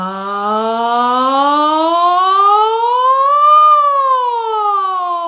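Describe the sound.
A single voice sings a smooth vocal siren exercise on the syllable "ja", gliding steadily upward from low to high pitch, peaking, then sliding back down, sustained and clear.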